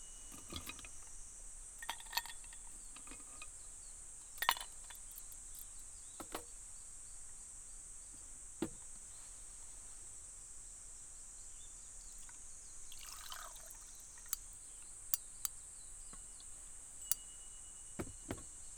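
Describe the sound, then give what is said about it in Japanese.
Ice cubes crack and pop in a glass of cold barley tea, sharp little ticks at irregular intervals, quiet, over a steady high-pitched insect-like drone with no talking. “この氷が割れる音、聞いてて心地いいよね。”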